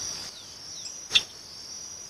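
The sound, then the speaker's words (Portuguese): A single short, sharp click like a hiccup, the contact call a tapir mother and calf use with each other, stands out once against a steady high-pitched buzz of insects that continues throughout. “Então se a mãe se afasta um pouquinho do filhote, ela vai usando esse somzinho de clique, que lembra um soluço, para o filhote saber que ela está ali por perto.”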